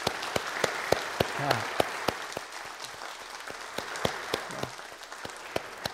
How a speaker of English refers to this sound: So let's give them a nice round of applause.